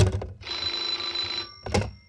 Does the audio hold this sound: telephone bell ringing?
yes